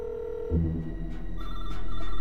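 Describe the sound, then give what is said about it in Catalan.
A desk telephone in a dim office rings in a sound dramatization with a steady electronic tone that shifts pitch partway through, fairly loud with no one speaking. “En un despatx en penombra, un telèfon de sobretaula.”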